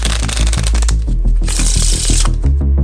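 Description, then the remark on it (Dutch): Playing cards being shuffled: quick bursts of crisp riffling that repeat in a steady rhythm, fairly loud, with a low, droning tonal layer running underneath. “Kaarten.”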